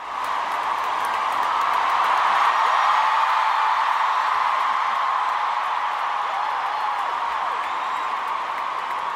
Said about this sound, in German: Ja, noch nie so lauten Applaus gehört, schrieb unsere Popkritikerin am Abend. Ja, wir hören's.